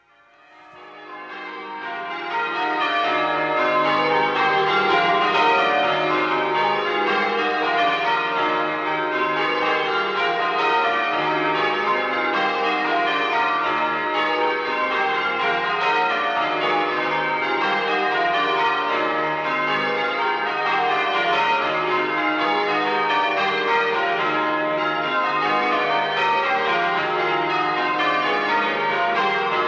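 A full peal of ten church bells at St Peter's Church in Evercreech, Somerset, cast by the John Taylor Foundry of Loughborough in 1948, the 21-hundredweight tenor tuned to E-flat, rings continuously in a steady, interweaving change-ringing pattern, loud and sustained, with dense overlapping tones and no voices.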